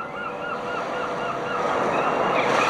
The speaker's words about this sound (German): I can also slow down the waves. So plätschert es bei der Eröffnung aus den Lautsprechern.